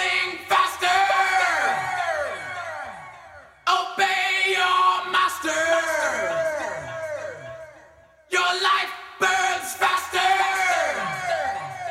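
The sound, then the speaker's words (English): A man screams loud, raw vocals in a heavy metal song, including the words "Obey your master", his voice sliding downward in long strained phrases over a dense, roaring backing, broken by two brief gaps. “This might have been the other reason why I didn't want to listen to this song, because a white guy screaming, "Obey your master," I'm like, nah, I'm checking out.”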